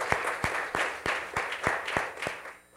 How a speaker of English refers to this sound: Let's give the Lord a hand clap of praise, as we always do.